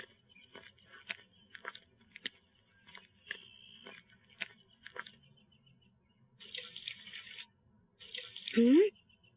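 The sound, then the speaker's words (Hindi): Water is poured onto a person who has fallen, in two splashing bursts, the second followed by a short gasping vocal sound, after a stretch of scattered soft clicks and taps. “ये किसी जगह गिर गए हैं, इन पर पानी डालिए।”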